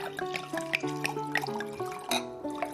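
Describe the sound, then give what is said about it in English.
Wine being poured into a glass at a dinner table, a steady gurgling stream whose ringing tone shifts as the glass fills, with small splashes and drips and no voices. “So the first thing we have to do is pour everybody a little wine.”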